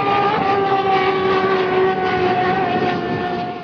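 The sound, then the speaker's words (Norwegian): A voice beatboxes a train, holding a loud, steady, horn-like tone with layered pitches over a rumbling, hissing texture for several seconds, fading slightly at the end. “Jeg trodde det var din sport, det er beatboxing.”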